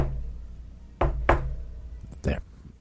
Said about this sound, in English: That is how you speak Sasquatch. Oh. If you've ever watched Finding Bigfoot, that's what they would do is knock on the trees.